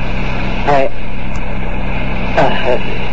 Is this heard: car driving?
yes